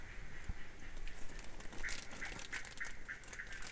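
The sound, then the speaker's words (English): A large frog, lit by a spotlight, calls at night: a quick series of about five short, nasal, duck-like croaks at a mid pitch, heard over steady hissing background noise with light rain. “I saw the call finish. Yeah, that must be the one that's calling more than my one.”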